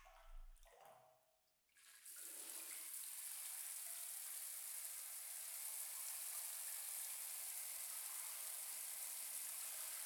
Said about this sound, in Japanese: ではでは最後にシャワーで流していきますね。失礼します。